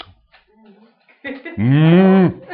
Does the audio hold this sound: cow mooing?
yes